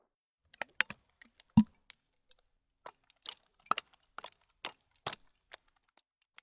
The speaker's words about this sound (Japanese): 聞こえましたでしょうか。今振ったのは炭酸泡の入ったボトルです。これを手に出して先輩のお耳につけつつ、先輩の凝り固まったお耳を揉みほぐしていきます。